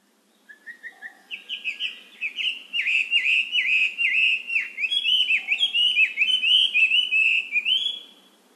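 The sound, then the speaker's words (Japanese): A Chinese hwamei laughingthrush sings a long, loud, varied song of rich whistled phrases, starting with short rising notes and building into a continuous warbling stream, clear with no voices. “ガビチョウです。”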